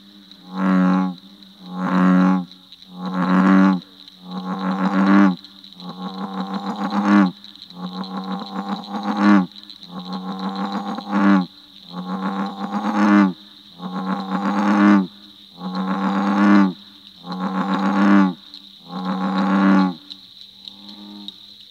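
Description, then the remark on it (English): A large bullfrog calls loudly, about a dozen deep, resonant croaks in a steady rhythm, several broken into stuttering pulses, over a faint constant high-pitched hum. “Perhaps you will enjoy the performance of this large bullfrog, who seems to have a stuttering problem, or else he's got a frog in his throat.”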